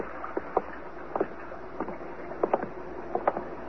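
A boat moving on water, with soft rhythmic splashes and knocks repeating about every half second over a steady hiss of water, moderately quiet, with no voices.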